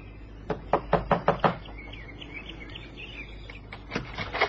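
Five quick, sharp knocks on a door, then a pause filled with faint chirping birds, followed by another short burst of three or four knocks. No voices are heard.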